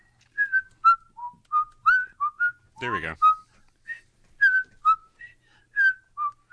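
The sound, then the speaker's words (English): Someone whistles a bouncy, cheerful fishing theme tune, short clear notes in a lively rhythm, briefly interrupted by a quick spoken remark midway before the whistling carries on. “They whistle like Winopi's got the fishing tune song.”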